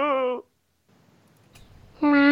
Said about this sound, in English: Meow, meow. There. You see? Why don't you learn from Pluto? He doesn't ask me where I'm going, does he? Meow.